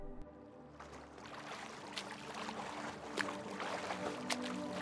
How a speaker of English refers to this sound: There once was a man in the middle of the sea. Over the soft churning waters, he caught a glimpse of land in the distance.